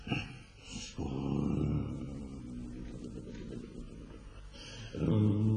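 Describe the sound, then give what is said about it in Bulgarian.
Someone snores loudly in a cave: a long, low, rasping rumble that drones on for several seconds, followed by the start of another deep snore right after a short pause. “Някой хъркат от. Кой ли спи?”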